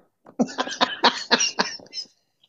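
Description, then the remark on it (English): A quick run of sharp, breathy sneezes, about six bursts in close succession, loud, with no talking over them. “Bless you.”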